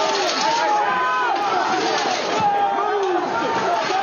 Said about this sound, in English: That sound from a video showing her being knocked to the ground by rioters who broke through a barrier outside the Capitol. Someone in the crowd slammed a metal bicycle rack into her, knocking her unconscious.